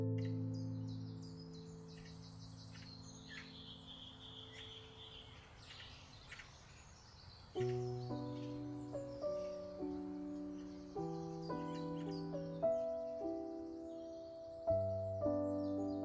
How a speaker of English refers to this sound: The birds are very chatty this morning. Very chatty. Very chatty indeed. I think they're pleased. They're pleased that the air is finally warming up.